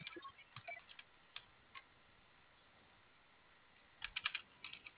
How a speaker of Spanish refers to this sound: Se va a realizar la apertura por teclado, ya que este dado no le cayó vía remota. No sé si el operador le puede indicar dónde se encuentra el teclado. Sí, ya, ya lo estoy viendo. ¿Puede ingresar 5254? Sí, a ver, permítame. A ver si le cae.